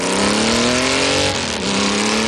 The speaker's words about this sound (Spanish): Acabas de escuchar el sonido de una moto. Una moto como la de Marta Insausti, con la que, joder, ha dado la vuelta al mundo.